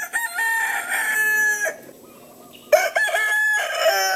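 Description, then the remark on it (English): A feral rooster in the Keys crows loudly, a long harmonic call that breaks off briefly and then resumes with a second strained crow. No one speaks. “In a place where invasive species like iguanas abound, the most common of all, the chicken, draws a lot of ire. They crow at all hours of the day and night.”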